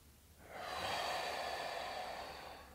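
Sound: deep breathing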